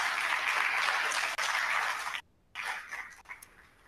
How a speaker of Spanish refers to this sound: Te mandamos un fuerte abrazo y un caluroso aplauso desde Zacatecas.